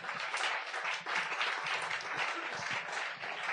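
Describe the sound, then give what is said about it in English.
A crowd applauds the contestants steadily, a dense wash of many hands clapping at once that stays loud and sustained throughout, with no talking over it. “Of course, round of applause to the contestants, ladies and gentlemen.”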